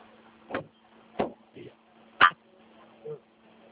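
A man climbing into a parked car where another person waits: a few dull thumps and clunks spaced irregularly, like a door and seat being jostled, over a steady low interior hum.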